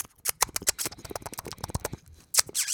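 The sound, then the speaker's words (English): A voice imitates a guinea pig with a rapid stream of squeaky, chattering chirps and hissy bursts, briefly pausing before a louder final flurry. “That's my guinea pig noise.”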